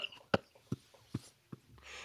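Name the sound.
coughing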